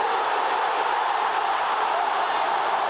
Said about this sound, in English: 1,000 for Buddy. The crowd come from everywhere to salute a champion.